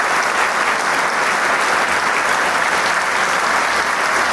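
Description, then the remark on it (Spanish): Sustained applause from a full audience at the Teatro Isauro Martínez after a Camerata de Coahuila concert of orchestral Christmas music. It is a dense, even wash of many hands clapping at steady loudness throughout, with no voices standing out. “El aplauso lo dice todo.”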